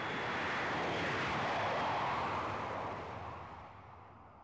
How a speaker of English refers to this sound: And then the plane took off.